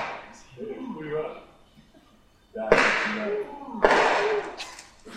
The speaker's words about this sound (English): You guys catch that? It's not just one explosion.